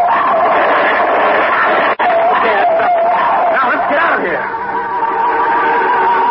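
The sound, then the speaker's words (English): A creature, a pallid white shape running on all fours up a tunnel, howls loudly, one drawn-out wavering cry over a dense, rough background of yelps and commotion, with a sharp snap partway through. “Something running on all fours and howling, tumbling.”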